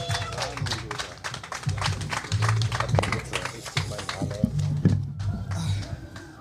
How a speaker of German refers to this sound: Macht mal bitte einen unfassbaren Lärm und Applaus